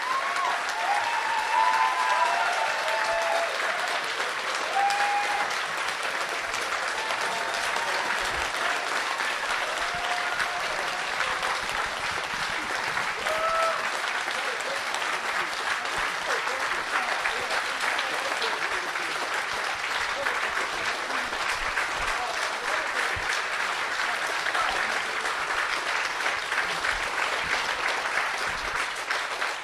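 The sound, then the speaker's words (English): An audience applauds steadily for about half a minute for an event's entire team and speakers, a dense wash of many hands clapping at an even, sustained loudness, with faint voices and a few whoops rising through the noise. “So can we have a round of applause for the entire team?”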